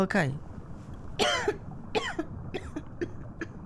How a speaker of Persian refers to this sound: تا کی میخوای سرفه کنی؟